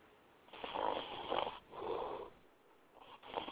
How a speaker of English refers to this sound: What I'm gonna do is pour the snore back in. Man, this is the snore. Listen, y'all listen.